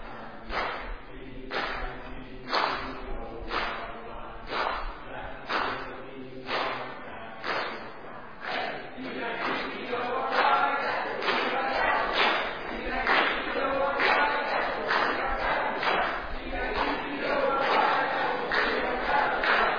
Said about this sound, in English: stand your team and let's hear the green team learn their first cheer. Here we go. Let's see if they can learn their first cheer.